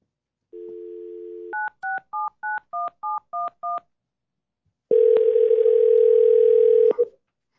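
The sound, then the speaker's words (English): A steady telephone dial tone, then eight quick touch-tone beeps dialed in an even rhythm as Commissioner Condon is reconnected to a meeting by phone, followed after a pause by a louder, harsher sustained line tone. No one speaks. “Commissioner Condon is back in cell phone range, so we're just going to hook her back up here.”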